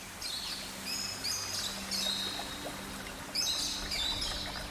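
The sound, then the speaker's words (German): Birds of various species chirp and warble in overlapping bursts against a steady low hum of ambience in a narrow strip of forest, with no voices, the calls moderately loud. “Der Gesang verschiedener Vogelarten begleitet euch zwischen den Bäumen.”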